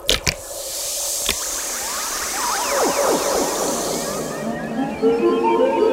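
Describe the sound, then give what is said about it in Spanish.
Water is added with a steady hissing rush for several seconds and salts are poured in, joined by sweeping, whale-like tones that rise and fall before the pouring stops. No one speaks. “¿Será que le falta agua? Pongámosle un poco más. Y un poco más de sales.”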